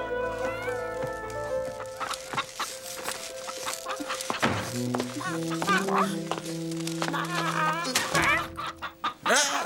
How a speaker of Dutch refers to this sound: Een boer kwam in het kippenhok. Hij propte 6 kippen in een jute zak.